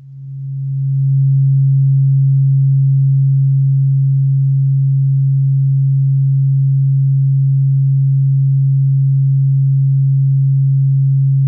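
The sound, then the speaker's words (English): A steady, low tuning fork tone hums alone without a break, swelling in over the first second and then holding a pure, unwavering pitch for about ten seconds. “And this is the tuning forks that Accutonics tunes their main tuning fork too.”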